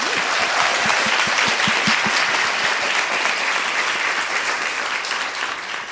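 Steady applause from an audience, dense clapping holding at an even loudness for several seconds before starting to taper off at the end, with no voices over it.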